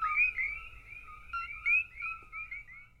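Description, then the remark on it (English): A chorus of coqui frogs in a national park on the Big Island of Hawaii chirps continuously, their high, whistle-like two-note calls overlapping in a rapid, steady stream over a low background rumble, with no voices. “That was the unmistakable chirp of the frog found in Hawaii's national parks on the Big Island.”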